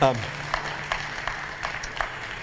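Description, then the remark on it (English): An audience claps together in a steady, unhurried rhythm, roughly every third of a second, the claps sounding blended after a brief voice at the start. “Clap.”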